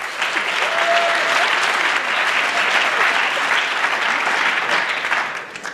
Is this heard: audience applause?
yes